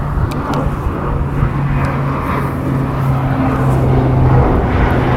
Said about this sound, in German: Ein Militärflugzeug fliegt mehrere Schleifen über den Dannecker Hof, gleich neben dem geplanten Absprunggelände bei Geislingen.